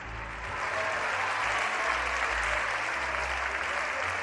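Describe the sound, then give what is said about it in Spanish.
Sustained applause in Spain's Congress of Deputies, the standing PP benches applauding the opposition leader's speech: a dense steady patter of many hands clapping at an even loudness throughout, with a faint low murmur underneath. “Este es sonido directo del Congreso de los Diputados, los aplausos a la intervención del líder de la oposición.”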